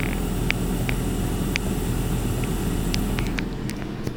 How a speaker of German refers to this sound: Ja, und wenn wir ganz nah rangehen ans Gerät bzw. die Pfanne, hören wir es da auch ein bisschen brutzeln, auch wenn es etwas vom Motor übertönt wird.